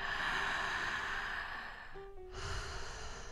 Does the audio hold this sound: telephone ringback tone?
no